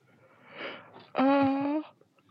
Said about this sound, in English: Yawning.